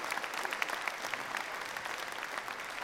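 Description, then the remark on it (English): Steady, dense applause from parents and guardians at an evening concert, many hands clapping at once for the children, a continuous bright patter at an even level throughout, with no voices standing out. “but we'd like parents or guardians to give a round of applause to all the children that are here tonight that have been so well behaved, really so well behaved.”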